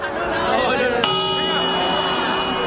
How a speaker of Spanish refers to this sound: Con este sonido despediremos esta medianoche del 2024. Es el del reloj de la Puerta del Sol de Madrid, que marca el fin de un año y el inicio del siguiente en la mayoría de hogares de nuestro país.